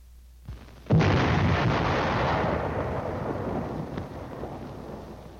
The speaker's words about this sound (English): Next, the burst of the shell on impact.